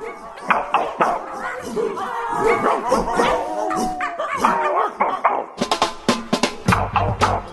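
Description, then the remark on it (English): A trained pack of dogs barks and yips together in a dense, overlapping clamor, with sharp repeated barks and a few whimpers, loud throughout, ending in a rapid burst of barking. “Here at Freakonomics Radio, we've given one particularly clever pack of dogs some very specific training.”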